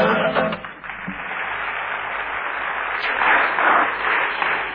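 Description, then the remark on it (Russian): An audience applauds steadily for several seconds after a recited poem, a dense wash of clapping that swells slightly toward the end, with a brief murmur of voices at the start. “Значит, дорогие, видите, как опять, значит, я вам сказал искренне по поводу аплодисментов.”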